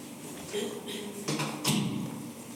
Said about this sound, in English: could you just tap on the door for Councillor Robertson, please?